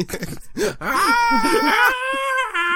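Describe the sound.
A voice imitates a pterodactyl scream: a few wavering vocal sounds rise into a long, loud, shrill screech with a strained, buzzing pitch that breaks briefly near the end.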